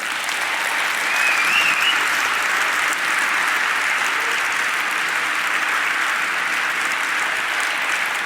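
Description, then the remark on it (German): An audience at the Lightning Talks at 36C3 applauds steadily for everyone who made the camp's supplies possible, a dense wash of many hands clapping at an even level for several seconds, loud and sustained without pause or voices. “Jetzt einen großen Applaus für alle, die das möglich gemacht haben.”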